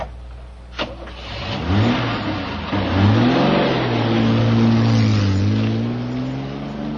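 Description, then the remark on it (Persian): A car engine starts with a short click and a burst, then revs and accelerates steadily, its rising and falling harmonic whine loud before easing slightly as it pulls away; a woman gets into the car outside a house and drives off. “بابک از تاریکی میاد بیرون، پروانه اونو میبینه، اما بعد با بیتفاوتی سوار ماشین میشه و میره.”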